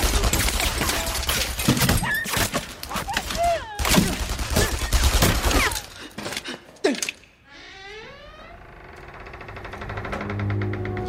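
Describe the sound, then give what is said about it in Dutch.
A rapid burst of loud gunshots in a Kuifje (Tintin) story as Interpol agent Barnabas is shot, several sharp cracks fired in quick succession over about seven seconds, followed by a quieter stretch of wavering tones. “De man die neergeschoten is noemt Barnabas Dos, een topagent van Interpol.”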